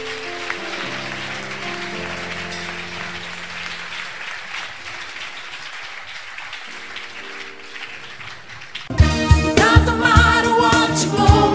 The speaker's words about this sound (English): Stand to your feet, clap your hands for the Lord.